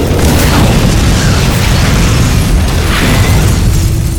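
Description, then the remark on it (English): A heavy tank shell comes down and explodes, sending burning alcohol flames nearly 10 feet high. The blast fills the whole stretch with a loud, deep, continuous rumbling roar that stays dense and steady rather than breaking into separate blasts. No one speaks. “Rock's car was already shooting off with its emergency reserve when the tank shell came down.”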